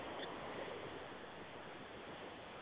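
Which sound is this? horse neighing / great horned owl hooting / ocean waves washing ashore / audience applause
ocean waves washing ashore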